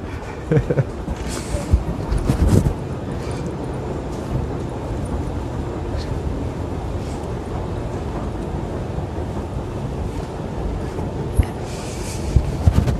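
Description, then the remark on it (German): Underground metro station ambience: a train's steady low rumble and rail noise fills the space throughout, with a few sharper clanks and rattles near the start and end. “Ich sehe gerade, ich habe gar keine Maske auf, obwohl ich im U-Bahn-Bereich bin, werde ich mir gleich mal überstülpen.”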